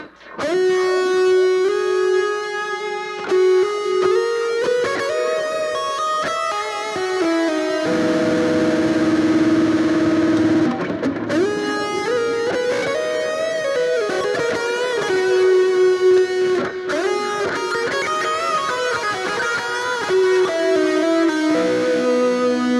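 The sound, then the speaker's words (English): A sustained electric guitar lead played through the Terra Echo lead setting with a lush echo delay, notes ringing and repeating into a wash of trailing echoes, played loud with no voices. “I like the delay there. This one I know I kind of like. It's the Terra Echo lead.”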